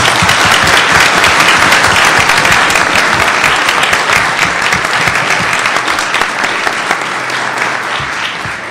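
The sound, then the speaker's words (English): A loud, steady round of applause from a conference audience, dense overlapping claps sustained for several seconds and tapering only slightly toward the end, with no voices standing out. “I think they both deserve a big round of applause.”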